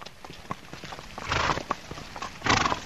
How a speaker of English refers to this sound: Outside Valentina's house, a horse and cart trots past, transporting more potatoes.